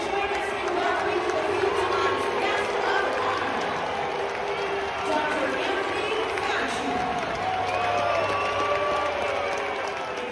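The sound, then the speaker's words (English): A large stadium crowd in Seattle boos Fauci as he throws out the first pitch, loud and steady, a dense wall of voices with long, drawn-out low tones rising and falling across the whole stretch, with no clear break. “And here is Fauci, got booed, thrown out of first pitch, clip 36.”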